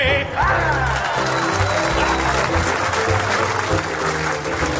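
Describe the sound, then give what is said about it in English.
A live audience reacts loudly and continuously for several seconds to an awful pun, a broad hissing wash mixed with low groans and scattered clapping, with no single voice standing out. “it's not often there's an audible hiss from the crowd because the pun was so awful, but I love those.”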